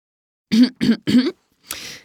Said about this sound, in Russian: Крынь-прынь. Это старичок в зале откашливается и сморкается.